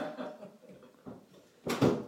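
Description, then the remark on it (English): A front door is opened with a loud clunk and rattle near the end, after a couple of seconds of low, muffled shuffling and handling noise. “I go down and just still open the door.”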